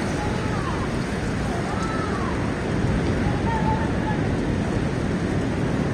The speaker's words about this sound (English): This crazy storm was captured at an airport in China.